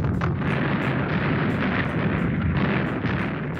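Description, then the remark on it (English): A dense, continuous barrage of many small explosions from a World War II bat bomb, the bats' own small bombs going off after release, booming and crackling on top of one another with sharp bursts standing out, loud with no talking. “So instead of having a big explosion, you would have a lot of very small explosions.”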